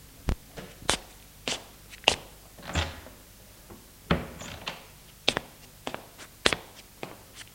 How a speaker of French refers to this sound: remonte essoufflé. Il entre, ferme la porte.